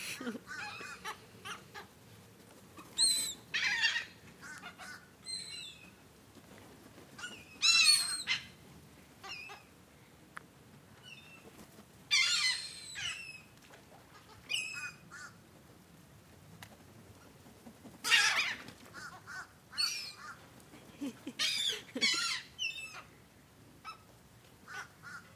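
seagulls calling

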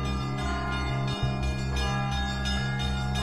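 church bell ringing

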